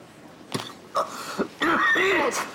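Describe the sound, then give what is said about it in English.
A violent coughing fit from a man wearing a breathing mask: a few sharp, separate coughs, then a longer strained burst of raspy hacking. No one speaks. “… has a violent coughing fit.”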